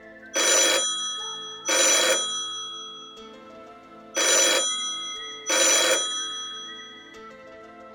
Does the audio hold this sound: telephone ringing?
yes